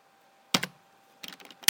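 Keyboard typing of the Korean word 강 with Korean text input: a few quick key clacks, then a short burst of lighter taps and a final sharp pair of keystrokes, crisp and bright with quiet gaps between, no voices.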